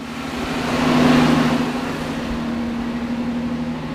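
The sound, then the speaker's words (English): A truck engine turns over when the key is turned after its fuel pump was replaced. It idles with a steady low hum, swelling into a louder rev about a second in before settling back to a rough, constant rumble. “Then the truck turned over and roared to life.”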